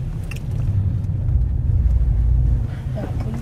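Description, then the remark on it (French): A car rumbles past on a street in a neighbourhood, its deep engine and tyre noise swelling to a peak and then easing off, with muffled voices faintly in the background. “Il y a la police. Ah, là, la voiture. Ah. Il y a du trafic.”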